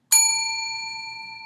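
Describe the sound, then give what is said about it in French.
A single bright page-turn chime from a read-along book rings out alone, a clear bell-like ding with shimmering overtones that slowly fades without cutting off. “Lorsque tu entends, tourne la page de ton livre.”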